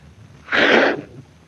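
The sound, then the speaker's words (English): A single loud sneeze from a person with a cold bursts out, a broad noisy blast lasting about half a second, with quiet background before and after. “God bless you.”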